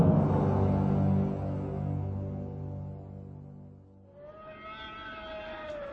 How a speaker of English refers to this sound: A dozen meters above, the settler's call siren screamed its ear-piercing warning to the oasis and beyond.